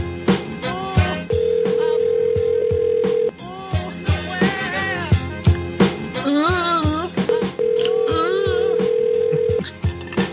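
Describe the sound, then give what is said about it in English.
An outgoing call's ringback tone to a grill restaurant in Kentucky at 4:14 p.m.: two long, steady electronic rings, each about two seconds, separated by a pause, heard over busy background music or vocal sounds. “Let's see if they pick up.”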